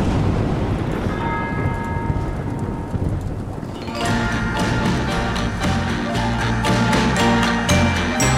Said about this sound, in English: Is that the … bell? Sounds like it. Of course.